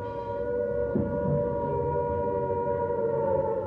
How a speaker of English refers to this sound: Dorothy vividly remembers being in London when that first air raid siren rang out. We were at church one day, and we heard the sirens going.